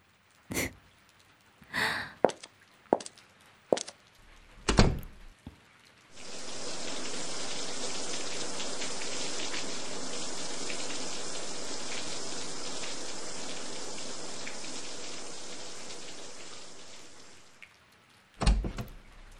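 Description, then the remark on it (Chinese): A shower runs steadily for about eleven seconds, a dense hissing spray of water, bracketed by a few sharp knocks and clicks before it starts and after it shuts off. “那我先去洗澡了”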